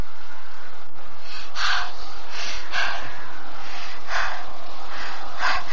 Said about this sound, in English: Don't breathe so loudly. He will hear you.